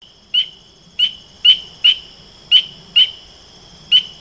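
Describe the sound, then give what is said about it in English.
A spring peeper's rain call: seven short, high-pitched peeps at slightly uneven intervals over about four seconds, each one clear and similar in loudness, above a faint low background rumble. “The rain call of the spring peeper is a series of peeps and squeals that are more harsh than the sound of sleigh bells.”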